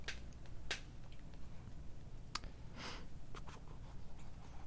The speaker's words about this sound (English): Hold on. I was typing.